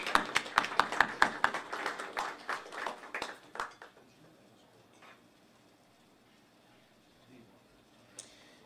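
A small crowd claps for about four seconds to welcome a speaker, the crisp claps thinning out and fading, with one faint sharp sound near the end.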